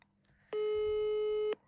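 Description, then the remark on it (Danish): A single steady telephone ringing tone sounds for about a second, loud and clear, as a call is placed, with faint background noise before and after and no talking. “Skal vi ringe ham op? Jeg har ringet, skulle se ham.”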